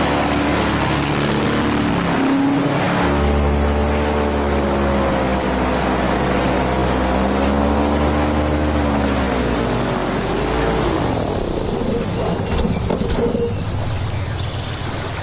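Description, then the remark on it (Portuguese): A vehicle engine hums steadily over a low rumble, its tone wavering and then dropping in pitch as it slows to a stop, before giving way to a broad, noisy background. “com a inércia, portanto tens que desacelerar antes de quereres realmente parar, e depois há essa pausa de silêncio”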